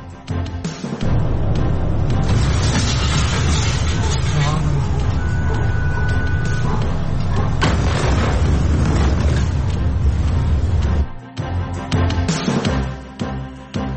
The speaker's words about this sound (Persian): وقوع انفجار بزرگ در بیروت، تمامی پایتخت لبنان و حومه آن این انفجار بزرگ را شنیدند.